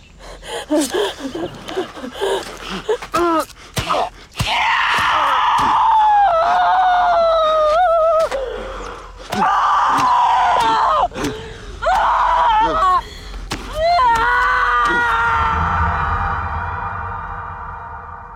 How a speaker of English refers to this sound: The screams from … enunciate … agony. His groans are muffled by the blanket